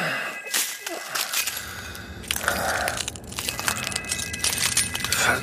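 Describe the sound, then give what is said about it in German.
Glass breaking in a dense, crunchy clatter, with sharp tinkling fragments scattering and crackling for several seconds, with no voices. “Was ist denn das? Wo kommt denn das Glas her?”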